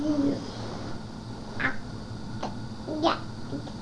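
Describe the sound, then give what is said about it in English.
A cat makes several short, rising meows and chirps, spaced irregularly over a few seconds, against a steady low background hum, while being hugged. “You kiss the cat?”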